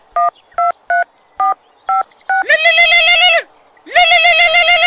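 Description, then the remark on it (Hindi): Six short, evenly spaced telephone keypad beeps as a number is dialed early in the morning, followed by two longer, buzzy tones separated by a brief pause. The tones are clear, with no talking. “बड़ा सवेरे ही फोन कर देलू, कोनो बात नहीं है ना?”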